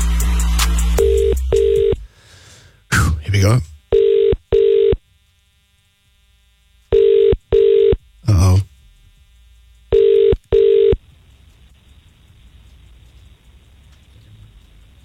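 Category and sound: signal or alarm, telephone dialing and ringing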